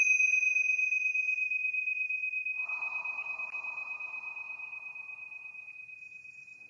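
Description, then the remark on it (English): Tingsha bells are struck once and ring out with a bright, high, pure tone that shimmers and slowly fades over several seconds, with a soft breathy rustle partway through. “And we're going to ring the tincture bells to clear out any lower frequencies.”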